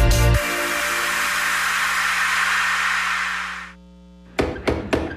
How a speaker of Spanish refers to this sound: ¡Tocan! ¿Quién? ¡La puerta!